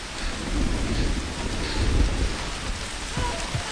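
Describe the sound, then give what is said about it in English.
Steady, heavy rain pours down in a continuous hiss, with a deep rumble of thunder rolling underneath. No one speaks. “The door remains shut, and with the rain trickling down his cheek, he turns to go.”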